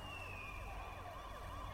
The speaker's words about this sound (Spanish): Pude escuchar patrullas acercándose.